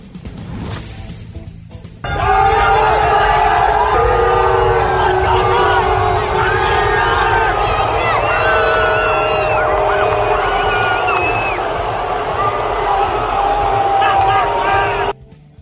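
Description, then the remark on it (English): A huge stadium crowd in Seattle boos loudly and steadily at Russell Wilson on his return to Seattle, a dense wall of sustained, droning voices that swells in after a quiet start and holds for over ten seconds before cutting off. “he was booed when he made his return to Seattle last night.”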